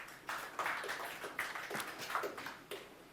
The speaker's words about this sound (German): Ich fange mal mit was an, was wahrscheinlich jeder schon mal benutzt hat. Grobes Klatschsignal.